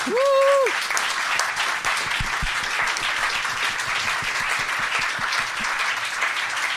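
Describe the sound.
An audience breaks into steady, dense applause that holds at an even level throughout, opening with a short voiced cheer rising over the clapping.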